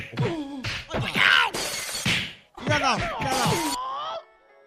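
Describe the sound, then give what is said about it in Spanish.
Several loud bursts of glass shattering and crashing follow one another over a few seconds at a Shaolin temple during martial arts training, mixed with strained shouts and groans, then a brief ringing tail as the noise settles. “No ganan para cristales ahí.”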